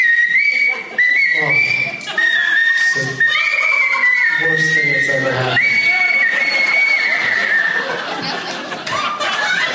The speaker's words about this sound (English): You're raping that song. That song is crying for help. Through your whistle.